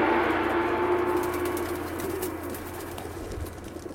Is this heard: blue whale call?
no